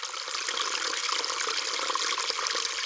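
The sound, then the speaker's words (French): Flowing river water rushes and babbles steadily throughout, a continuous bright wash of sound at an even level, with no voices or other sounds over it. “Nos amis se rendent près de la rivière.”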